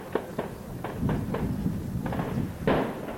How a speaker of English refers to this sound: That's the sound earlier today of French SWAT teams in a suburb outside Paris exchanging gunfire with two brothers who'd been subjects of a massive manhunt.